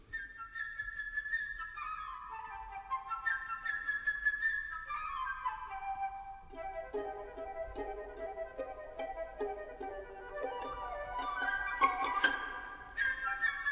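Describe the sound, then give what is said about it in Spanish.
A flute plays rapid, fluttering trills and runs that imitate a bird, high and bright, over a soft orchestral accompaniment, with quick ornamented figures rising and falling throughout. “Y esto es lo que está sonando por debajo del revolotear del pájaro que está haciendo la flauta.”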